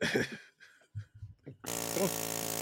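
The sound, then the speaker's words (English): A drill-like jackhammer sound effect kicks in abruptly, a loud, steady buzzing whir that runs for about a second until the end, preceded by a few brief, muffled, scattered noises. “That's a drill or something. It's supposed to be a jackhammer?”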